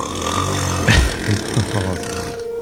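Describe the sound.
A man snores while asleep in his bedroom: a deep, rattling rumble with several throaty surges close together, low and gravelly throughout before it trails off near the end.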